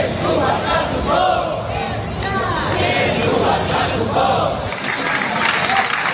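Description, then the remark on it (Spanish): A large crowd at a homage during the Bilbao festivities (Semana Grande, Aste Nagusia) in the Basque Country chants and shouts together in loud, overlapping voices. The noise never lets up, and near the end it turns into a burst of clapping. “Aplausos, homenajes a la memoria de tarras o que ya han fallecido, o que están en la cárcel, o que vuelven a casa tras su paso por prisión.”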